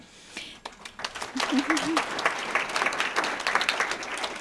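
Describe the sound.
A crowd breaks into steady applause to congratulate the organizers of the Pikes Peak Regional History Symposia, many hands clapping in a dense, crackling wash that swells after the first second and holds at a fairly loud level; a voice briefly sounds under it early on.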